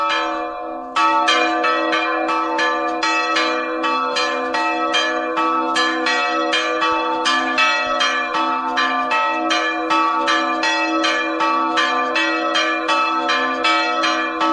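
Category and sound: signal or alarm, church bells ringing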